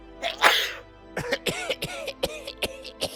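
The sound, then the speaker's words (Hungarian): A harsh cough from someone with a cold bursts out, then after a short pause a rapid fit of hacking, raspy coughs follows in quick succession. No one speaks. “A köhögés máma is szíthasít, kenjek a melkasomra friss fókazsírt.”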